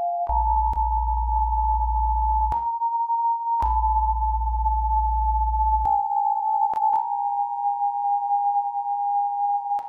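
A steady synthesized sine tone, starting from a fundamental pitch of about B flat with further sine waves generated as smaller segments of it, each a different note, hums continuously, broken by sharp clicks, with a low bass drone switching on and off in two long blocks beneath it.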